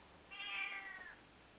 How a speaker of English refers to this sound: And ignore my cat.